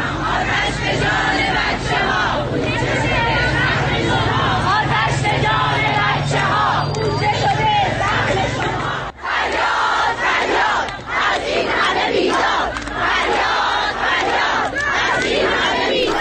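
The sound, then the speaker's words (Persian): A large crowd of protesting teachers chants slogans together, including about a fire at a primary school in Zahedan, loud and unbroken, a dense mass of voices that drops out for a moment partway through before surging back at full strength. “فرهنگیان معترض همچنین در شعارهایشان از جمله به آتش سوزی در دبستانی در زاهدان نیز اشاره کردند.”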